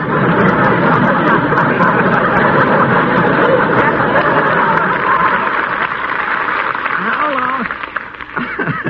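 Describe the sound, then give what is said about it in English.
A studio audience applauds in a steady, dense wash of clapping mixed with chuckles, holding loud for several seconds before thinning out as a voice begins speaking at the end. “You see, even an aperture in a river gets applause on some of the shows, Captain.”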